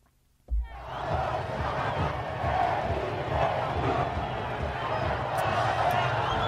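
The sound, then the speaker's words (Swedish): A huge crowd cheers and roars for the Argentine national football team's World Cup homecoming bus parade through Buenos Aires, starting abruptly after a moment of silence and holding a dense, loud, unbroken wall of voices throughout. “Och så här lät det när de åkte busskortege genom Buenos Aires.”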